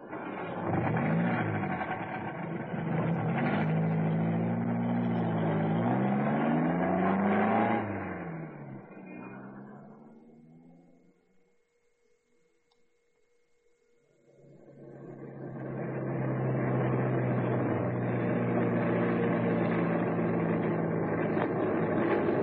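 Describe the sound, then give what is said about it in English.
A saloon car's engine revs loudly outside a house as a man gets in, its pitch rising and falling, fades to near silence for a few seconds, then starts up again and settles into a steady, droning run. “here he comes, getting into that saloon outside his house. I had an idea that car was his.”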